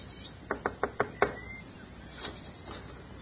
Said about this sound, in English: The gate was open, and seeing no one about, he made his way up to the front door of the shack and knocked.